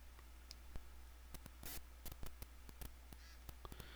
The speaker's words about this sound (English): And after a couple seconds, it'll vibrate, letting you know it's coming on. And the noise you're hearing is just digital noise coming from the phone turning on. Comes through the connection here.